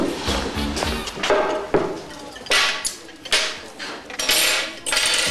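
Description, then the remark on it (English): A waitress throws cutlery and a bottle down hard onto a table, making a burst of sharp metallic clatter, followed by several scattered clinks and knocks over a few seconds. “She practically throws their cutlery and a bottle of energy down on the table.”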